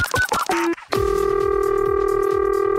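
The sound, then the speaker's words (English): A quick run of touch-tone dialing beeps gives way to a loud, steady electronic telephone ring that holds for a couple of seconds, with no voices, as a Playhouse phone scam prank call is placed. “Don't pick up the phone.”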